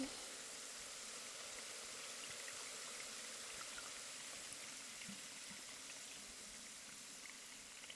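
Steady, dense fizzing of carbonated water being slowly poured, including behind the ears, with fine crackling pops, continuous for the whole stretch at an even, soft level, with no talking over it.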